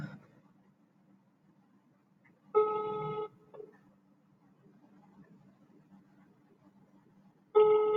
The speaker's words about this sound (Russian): Звоню. Гудки пошли.